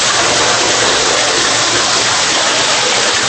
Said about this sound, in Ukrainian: Стіни з бетонних опор тут завжди вогкі. Температура 10 градусів тепла в будь-який сезон. Під ногами грязюка і струмочки води. Це дренажно-штольневі системи, які будувалися від кінця 19 століття і нині відводять ґрунтові води з глибин більших,